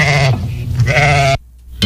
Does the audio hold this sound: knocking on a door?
no